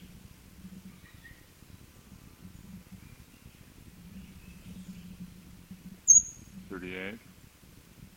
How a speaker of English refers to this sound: Bird is overhead. 39, 20 feet up. 40, 41, 42. All high thin notes been given by the same bird.